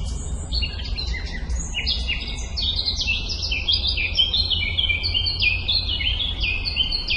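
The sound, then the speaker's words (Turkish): Several birds chirp and sing continuously in spring, in overlapping, high-pitched trills and tweets over a steady low background rumble, with no talking. “Kuş sesleri, böcek sesleri her tarafta kulaklarımızda.”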